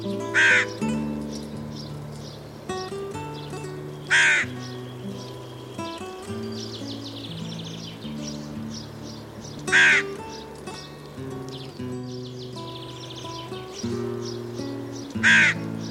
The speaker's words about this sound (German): Das war die Nebelkrähe.